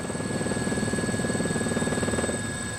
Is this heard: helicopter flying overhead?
yes